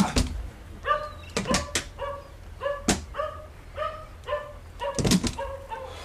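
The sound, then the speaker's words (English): Sniffer dogs checking empty boxes and crates on a ship bark in a rapid, excited series of short, pitched yelps, mixed with sharp knocks and clatter like wooden crates being bumped. “Let the dogs check those empty boxes and crates over there.”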